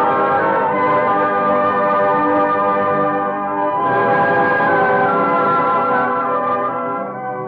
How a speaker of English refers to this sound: Oh, they're making signals from the belfry. The bell must be in place.